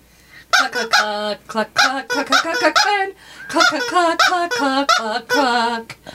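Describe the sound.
A person clucks out a song like a chicken for others to guess, voice imitating the bird in a quick, rhythmic run of short, pitched clucks, fairly loud, with brief pauses between phrases.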